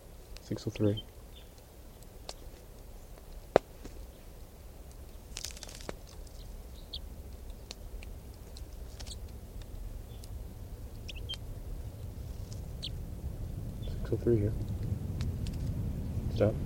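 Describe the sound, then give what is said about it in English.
A small flock of about five wild birds arrives at 6:03: short harmonic calls at the start and again near the end, scattered clicks and rustles between, over a steady low rumble that swells toward the close. “It's a large flock of about five birds.”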